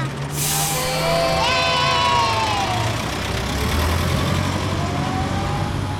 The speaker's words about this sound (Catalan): L'autobús ja arrenca!